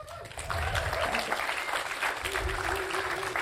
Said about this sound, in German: Gib ihr auch mal einen Applaus.